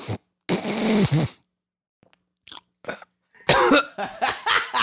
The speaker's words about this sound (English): Amateurs should not try that, the whole snot sniffing swallow. Let's not do that ever again.